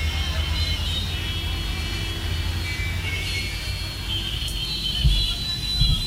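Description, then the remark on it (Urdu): A steady low rumble of passing road traffic fills the background, with a couple of brief thumps near the end and a faint high whine drifting over it; no one speaks. “بھائی توجہ ہے یا ٹریفک دیکھیں گے آپ, جس نے نہیں دیکھا ہو وہی دیکھے.”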